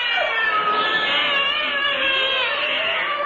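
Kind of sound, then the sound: animal, cats meowing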